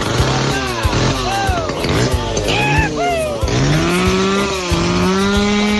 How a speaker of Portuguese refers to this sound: vê se leva lá na Carmota e arruma essa moto, porque pelo amor de Deus, ninguém aguenta mais essa moto, mas cedo.